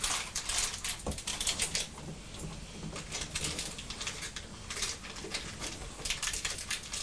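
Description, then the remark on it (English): A steady stream of small metallic clinks and rattles as pound coins are poured from a bag, continuing for several seconds with no one speaking. “It's like another bag of pound coins, is it?”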